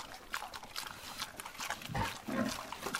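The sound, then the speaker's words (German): Woolly pigs (two adults, ten piglets and two sows) grunt and snuffle while jostling at a feeding trough of fruit, steamed potatoes, pellets and minerals, with wet slurping and chewing noises mixed in, a busy, continuous jumble of grunts rising and falling without any speech. “Mama und Papa Wollschwein, 10 Ferkel und 2 Sauen drängeln sich an der Futterrinne.”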